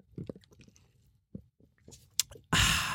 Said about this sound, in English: So let me have a sip of my iced coffee.